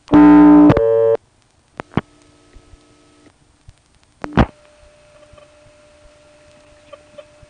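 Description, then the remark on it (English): A loud, buzzy telephone line tone sounds for about a second after the digits 47 are dialed to call another local exchange office, 472, then stops. Sharp relay-like clicks follow, and a faint steady hum of line tones lingers underneath. “That won't be necessary here, as we call the other local office, 472. Let's dial 47.”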